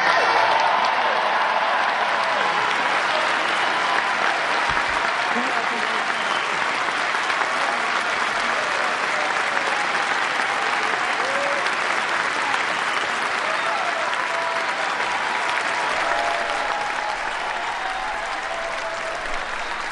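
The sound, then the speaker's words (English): Sustained applause from a large crowd after the oath of office of the Governor of the State of New York, a dense, steady clatter of clapping that holds at a loud, even level for the full twenty seconds before easing slightly at the end. “He's being embraced, and the applause is a little unusual for an oath of office, but this is an unusual circumstance.”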